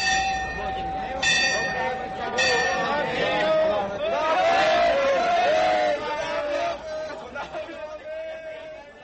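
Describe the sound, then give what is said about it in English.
The busy main railway station in Karachi bustles with dense crowd chatter and shouting voices, while ringing bells chime near the start over a steady background hum and the constant murmur of people. “We are in the main railway station in Karachi.”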